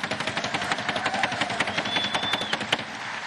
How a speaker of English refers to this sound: Everyone just clap louder than them for 10 seconds. Ready? 1, 2, 3, go.